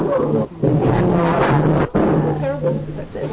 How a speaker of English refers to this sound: Is that you, …? It sounds like a lion.